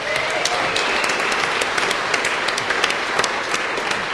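A crowd applauds steadily, dense overlapping claps forming a continuous wash of sound that stays loud and even throughout, with no one speaking.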